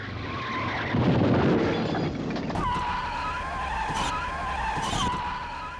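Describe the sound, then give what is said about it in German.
A 7-series BMW crashes into the rear of a small Ford Focus with a low crunching impact and shoves it forward under engine roar while the Focus brakes hard; tires skid and squeal loudly, the screech holding a steady pitch for several seconds with sharp bursts of scraping noise. “In dem Moment beschleunigten die Männer ihren Wagen so stark, dass sie mit ihrem BMW in das Heck des Focus krachten und ihn mit aller Kraft vor sich herschoben.”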